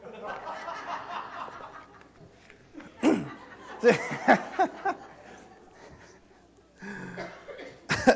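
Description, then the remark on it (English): A coughing fit from a speaker up front in a church: several harsh, loud coughs come in a quick cluster, then one more sharp cough at the end, with soft crowd murmuring and light laughter in the background. “I knew I'd get a coughing fit as soon as I get up here.”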